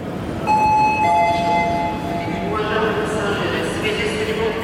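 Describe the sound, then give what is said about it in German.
A diesel locomotive drones and rumbles steadily as it pulls a train into Yaroslavsky station in Russia, with sustained whining engine tones over the heavy low hum and faint voices in the background. “Diese Diesellokomotive hat soeben einen Zug in den Jaroslawler Bahnhof gezogen.”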